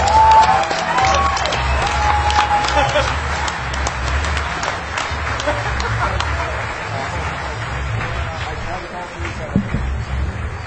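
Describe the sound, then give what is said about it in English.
A large crowd claps and cheers for a man who is mixing music while walking. A steady, dense wash of applause, with scattered sharp claps and a low rumble underneath, lasts the whole stretch. “You better clap for that man.”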